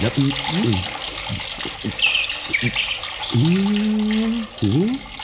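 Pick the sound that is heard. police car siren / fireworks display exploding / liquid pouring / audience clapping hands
liquid pouring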